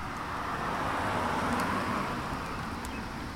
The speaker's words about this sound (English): A couple of cars are passing.